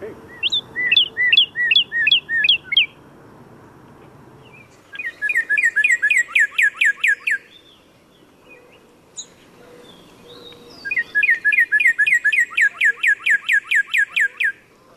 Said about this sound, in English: So this is a cardinal.